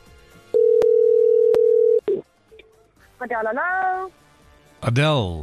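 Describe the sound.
A telephone ring tone sounds on an outgoing call from a radio presenter to a listener, one long steady buzz with a couple of clicks, then a short beep before a voice answers and briefly speaks.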